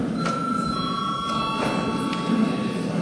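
A session break bell in the Saeima, Latvia's parliament, rings steadily for about three seconds to call a break, a continuous electric ring with bright metallic overtones holding at an even loudness, with no one talking over it.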